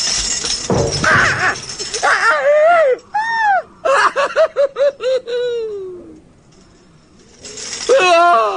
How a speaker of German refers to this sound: Laut kreischend und hilflos zappelnd fiel das Schlossgespenst aus hoher Höhe hinab durch ein offenes Fenster in ein stockdunkles Gemach.